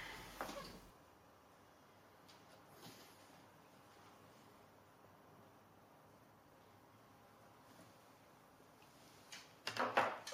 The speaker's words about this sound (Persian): چند تا پاکت رو میزشه، روشونو میخونه، یکیشونو باز میکنه.